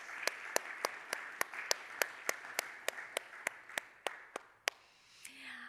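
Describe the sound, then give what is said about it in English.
A crowd applauds a 94th birthday for about four and a half seconds, with one sharp, steady clapper standing out in an even rhythm over the softer wash of hands before it fades out. “Now that deserves a round of applause.”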